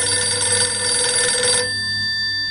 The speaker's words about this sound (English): the phone rang.